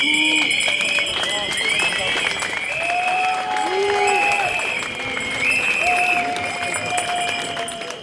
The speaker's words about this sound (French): Des ou, des a, des sifflets, il y avait un peu de tout. Il y avait donc des danseurs d'un côté et puis les intermittents de l'autre.